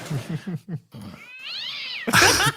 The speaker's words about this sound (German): War das deine Katze